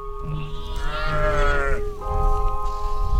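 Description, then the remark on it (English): A single drawn-out sheep bleat rises in the middle, fairly loud, over a steady low rumble and faint tonal hum of farm background, as a couple of baby lambs are guided on a farm to join the herd. “It's like she's moving in slow motion, guiding a couple baby lambs to join the herd.”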